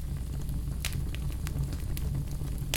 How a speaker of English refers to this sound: And now visualize yourself in front of a small bonfire on a cool summer evening.